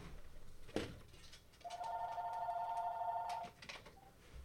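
A telephone rings once with a steady electronic tone lasting nearly two seconds, fairly loud over a quiet background, preceded by a sharp click; the phone is then silenced.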